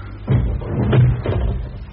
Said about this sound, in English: Shut that door, will you?